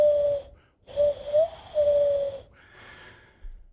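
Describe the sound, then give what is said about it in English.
Someone whistles an imitation of the call of a bird heard outside a studio in spring: a short steady note, a brief pause, then a longer warbling phrase with little upward slides, with no talking. “this damn bird has been outside of our studio for like the past week because like spring started now”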